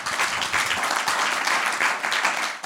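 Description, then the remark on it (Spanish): An audience applauds the Lord at night, many hands clapping together in a dense, continuous wash of sound that holds at an even loudness throughout, with no voices standing out. “¿Por qué no aplaudes al Señor en esta noche?”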